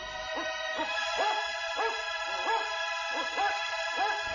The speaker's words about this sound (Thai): เจตบุตรได้ยินเสียงขู่คำรามของสุนัขปนเสียงร้องคร่ำครวญถึงพระเวสสันดรของพรามชูชก